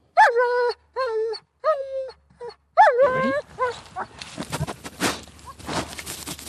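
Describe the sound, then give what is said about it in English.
A 2-year-old German shepherd sniffer dog named Fonzie gives several short, high whines, then breaks into rapid, breathy snuffling and sniffing against the ground with some rustling until the end, while searching alpine slopes in Australia for the invasive weed orange hawkweed. “A 2-year-old German shepherd called Fonzie is sniffing the ground.”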